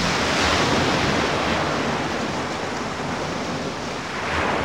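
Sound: stormy ocean waves crashing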